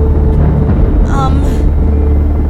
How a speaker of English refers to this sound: And how do I explain to you what's going on when you wake up? Why you're on a helicopter?